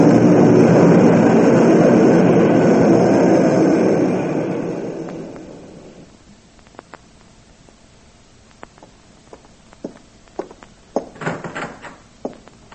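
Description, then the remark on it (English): A loud, rumbling airplane engine roars overhead, then fades away over a few seconds, leaving quiet broken by scattered small clicks and knocks. “Hey, listen. The plane.”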